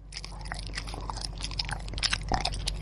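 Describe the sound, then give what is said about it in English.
A sound effect of orcas chewing off a boat's rudder: continuous crunching and gnawing with sharp cracks over a steady low rumble, no voices. “Come on, let's have something that sounds like orcas chewing off a rudder.”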